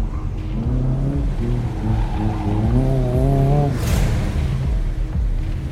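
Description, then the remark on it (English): A car engine hums steadily and rises in pitch, with a brief tire squeal as the vehicle slows and pulls up at a foster home for a wellness check, then a low rumble continues. “1017, we're pulling up to the foster home to do a wellness check on Elgin.”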